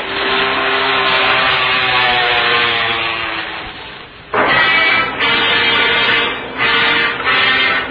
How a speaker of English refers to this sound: Father, what's that? Well, it's an airplane, and it seems to be in trouble.